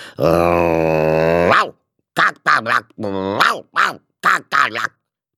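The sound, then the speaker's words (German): A dog, Rex, gives a long, steady growl for over a second, then breaks into a quick run of about seven loud, sharp barks with brief gaps between them, raising the alarm and ignoring commands to be quiet. “Aber der Hund gehorchte nicht.”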